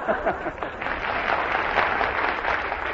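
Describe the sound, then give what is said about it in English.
A large studio audience applauds and cheers, a steady dense roar of clapping with whoops rising through it, holding loud and even for the full three seconds with no one speaking. “Silence, cheering thousands.”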